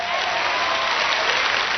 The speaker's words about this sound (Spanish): Y no me le deje ese aplauso a Jesús barato, dáselo bien.